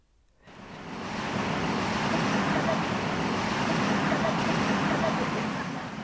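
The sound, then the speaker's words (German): Loud, continuous road traffic roars on an arterial road in Kano, northern Nigeria, a dense wash of engine and tire noise that fades in quickly and holds steady without a break. “Umgeben von tosendem Verkehr pinselt ein vielleicht 50-jähriger Mann weiße Farbe auf den Rahmen eines Rollstuhls.”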